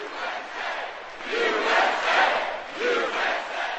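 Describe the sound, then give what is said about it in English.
A large crowd at a Mitt Romney and Paul Ryan campaign rally in Mooresville, North Carolina, about 50 miles outside Charlotte, cheers and shouts together, a dense roar of many voices rising and falling in waves, with chanting-like surges, loud and continuous throughout. “Here's how they were greeted in Mooresville, about 50 miles outside Charlotte.”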